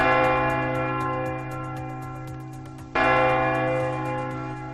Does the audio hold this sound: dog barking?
no